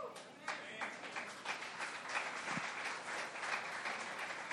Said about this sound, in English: Hallelujah. Hallelujah. I love that clapping of hands, but it's not enough. A mí me gusta ese aplauso, pero no era suficiente.